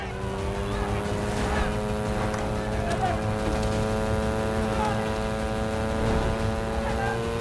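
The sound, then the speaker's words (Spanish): A stolen police motorcycle's engine drones loudly and steadily throughout, its deep humming tone holding nearly constant, with faint rattles and scattered noises around it. “sospechoso que coincide con Born ha robado una moto de la policía”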